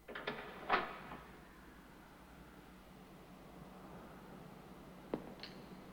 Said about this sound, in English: He glances round at the sound of a door opening.